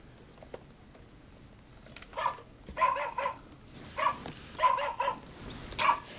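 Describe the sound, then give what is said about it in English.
A dog barks in a quick run of about seven short, sharp yaps after a couple of quiet seconds, moderately loud, with no talking. “No, doggy, don't bark, don't bark.”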